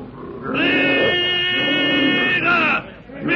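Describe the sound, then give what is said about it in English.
A loud, sustained ape scream, shrill and strained, holds for about two seconds, wavers, breaks off, then a second cry begins right at the end, as the ape approaches. No talking. “With another blood-curdling scream, the ape approaches Tarzan”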